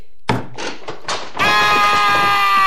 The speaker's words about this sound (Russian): Вот гвоздь, вот молоток, вот сюда вбиваем, размахиваемся и...